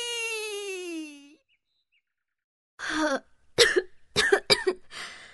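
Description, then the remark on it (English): A little girl makes a high, whiny vocal tone, then after a pause a run of about five sharp, hoarse coughs in quick bursts, fairly loud, with no talking. “I'll also bring a cup of hot tea for the little girl's cough.”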